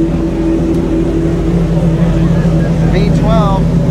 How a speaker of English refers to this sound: V12. Oh. The Gordon Murray car. Yep. It sounds amazing. Here, I'll hold up my mic. Yeah, I mean, it revs to what, like 16,000 RPM or something insane?